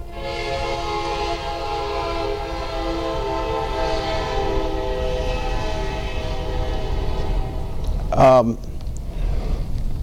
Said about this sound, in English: Come on in, train.